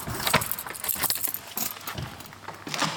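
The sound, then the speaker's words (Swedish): Keys jangle and clink sharply in bright metallic bursts while a church door in Torn parish is worked open, with a low dull scraping underneath. No one speaks. “Här springer lite spindlar iväg när man öppnar dörren.”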